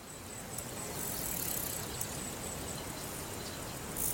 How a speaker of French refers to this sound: il y a bien de la bébite. Maudit moustique, voulez-vous bien me lâcher?